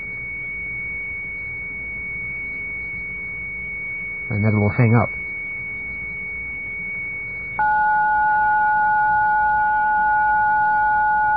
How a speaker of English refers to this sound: So now this is what an actual computer modem sounds like. Not that, that's the ring. See, that's a computer modem. I don't know what that one is. Then it'll go back and then it'll try the other one again.